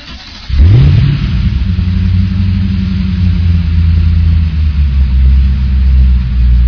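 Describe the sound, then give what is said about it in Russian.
A car engine roars to life and revs up loudly, then holds a steady, throaty rumble that rises and falls slightly throughout, with no voices present. “Чувак, хватит тыкать, поехали со мной, полная тачка, блядей, сейчас устроим гужбан.”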